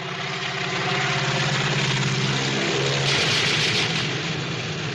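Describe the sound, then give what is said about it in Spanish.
A small propeller plane dropping bombs on the hero in Hitchcock's film North by Northwest (Con la muerte en los talones) roars steadily and loud, a droning mechanical hum with a rising, intensifying swell midway as it seems to sweep overhead. “Cuando justamente a Tom Healy en la película Con la muerte en los talones esquiva las bombas que le lanza una avioneta y está a punto de morir.”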